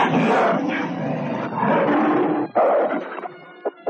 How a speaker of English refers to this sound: they step aside to reveal a second werewolf, a powerful gray werewolf, who now rumbles its challenge to Erica. The gray wolf attacks with the speed of thought, and soon the two half-human canines are locked in mortal combat.